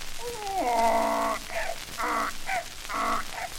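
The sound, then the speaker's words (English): A voice imitates a wild donkey's bray: a long rising hee-haw followed by two shorter honking brays in a rough, alternating rhythm, loud, with no other sounds. “Here's the marvelous wild donkey.”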